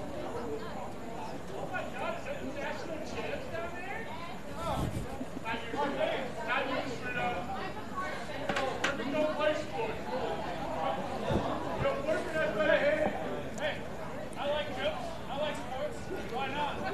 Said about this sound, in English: Gotta love this Thirsty Thursday crowd. Sometimes just let them be the natural volume.